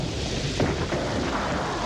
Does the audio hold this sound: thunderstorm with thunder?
yes